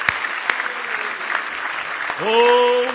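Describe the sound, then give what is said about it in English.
An audience claps steadily in praise of the Lord during an evening church service, a dense, continuous wash of applause, with a voice rising into a sustained shout or sung note near the end. “Give the Lord another big hand clap of praise tonight.”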